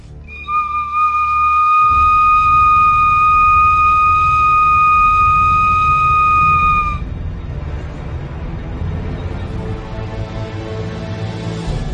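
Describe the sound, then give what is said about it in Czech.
A loud, steady whistle blown on a wild turkey bone holds one piercing tone for about seven seconds over a low rumbling background, then stops, leaving only the rumble and noise. “V této době okupuje papežství odpadlí, který se loňského roku veřejně zasvětil skrze šamana v Kanadě Satanu za pískání na kost z divokého krocana.”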